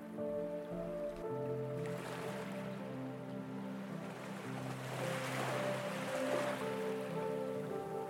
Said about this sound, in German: Dein Atem fließt mit dem sanften Rhythmus der Meereswellen im Kommen und Entgehen.